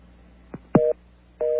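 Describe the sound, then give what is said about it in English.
A couple of quick line clicks, then a telephone busy signal while calling President Bush: a steady two-note electronic tone that cuts off and starts again, heard over a phone line with no one speaking. “First thing I want to do is try up President Bush here and see if he's still busy.”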